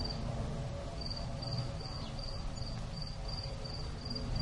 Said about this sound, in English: When it gets dark. When it gets dark. I hear crickets right now. That sounds like a cricket to me.